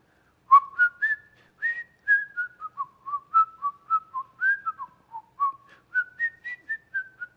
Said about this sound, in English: it's a small world, you might just hear him whistling a tune as he works.